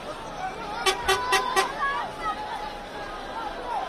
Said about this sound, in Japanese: 解放された人々が健康診断のため搬送されたガザ南部のナセル病院周辺には数千人が集まり、歓声とクラクションの音が鳴り響き、歓喜に沸きました。